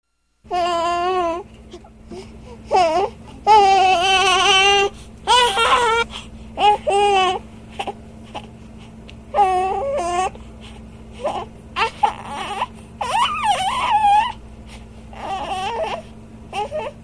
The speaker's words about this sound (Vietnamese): Ông Jerome lúng túng vì đứa bé la hét ầm lên.